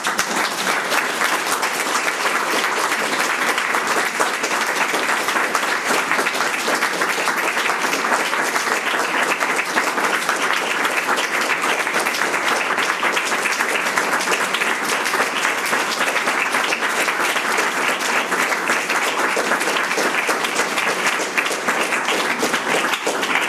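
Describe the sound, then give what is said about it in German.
A steady, dense round of audience applause fills the whole stretch, many hands clapping in a continuous crackling wash that stays loud and even without any voices over it. “Und ich glaube, jetzt ist einfach der Moment, wo wir dir alle einen Applaus schenken können.”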